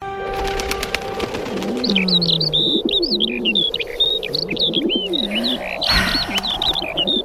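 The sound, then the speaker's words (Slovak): Several birds chirp and tweet in quick, overlapping calls while a dove coos low and steadily underneath, a busy outdoor chorus at moderate volume with no voices, heard outside an apartment building on the morning of the first day of spring. “Takto nejako to znelo, keď som dnes vyšla z bytovky. Vtáčiky.”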